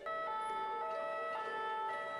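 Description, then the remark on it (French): An ambulance siren sounds loudly in the street, a steady tonal blare with regular shifts in pitch, continuous throughout and with no voices. “Ambulance dans la rue.”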